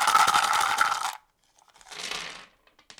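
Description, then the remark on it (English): Loud crunching of Brain Flakes cereal being chewed in milk for about a second, then a softer second burst of crunching and a few faint clicks. No voices. “Brain flakes that are incredibly crunchy in milk.”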